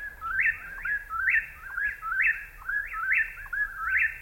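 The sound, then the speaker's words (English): Three whippoorwills call over and over, two right in front and one far away on a hillside, a steady run of about eight clear, rising whistled phrases in quick rhythm, with no talking. “Three whippoorwills that we can hear right now.”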